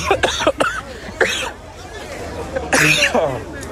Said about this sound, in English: this guy, everybody coughing is... So that's my guest, …, being tear gassed.